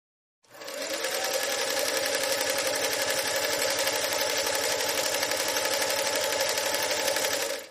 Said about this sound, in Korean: 내 어머니와 자매 간인 이모는 먼 곳에 살았고 신고 재봉틀 회사에 고용되어 사람들이 새로 나온 경이로운 전기 재봉틀을 직접 볼 수 있도록 가게 앞쪽에 앉아 바느질 시연을 했다.